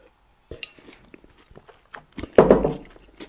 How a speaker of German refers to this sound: Aber jetzt habe ich ihn hier und ich muss euch jetzt mal was vorknuspern. Ich hoffe, das hört man jetzt mal so richtig, wenn ich hier reinbeiße. So.